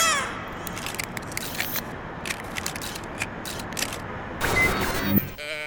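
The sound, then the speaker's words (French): A toy moo box gives out a drawn-out, wavering bleat-like moo over rough, scratchy noise, swelling louder toward the end before cutting off. “Je suis éleveur de boîtes à meux depuis 20 ans, moi, monsieur.”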